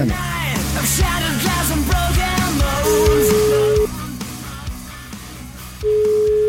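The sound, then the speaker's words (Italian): Two long, steady phone ringback beeps, each about a second, sound clearly with a pause between them as a call is placed to a friend, over a busy background of music and noise that thins out after the first beep. “Chiamiamo il mio amico”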